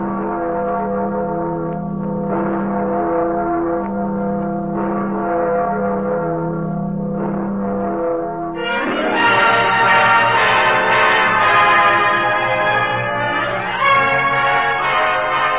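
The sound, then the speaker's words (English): The Freedom Bell, a large bell heard on a Radio Free Europe broadcast, tolls with deep, ringing strokes that hum and overlap, growing louder and fuller in the second half as the resonant tones swell. No voices are heard. “Let us listen again to the Freedom Bell.”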